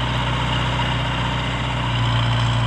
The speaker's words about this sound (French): Un tracteur. Ceux qui passent du temps à la campagne pendant ces vacances en croiseront peut-être des tracteurs. En tout cas, quand on est dessus ou à côté, on n'entend plus les petits oiseaux. Ça fait un boucan monstre.